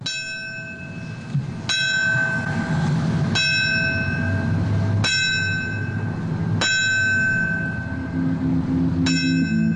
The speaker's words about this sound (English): This morning, the city of New York honored the victims of September 11th with silence and the ringing of a fire department bell.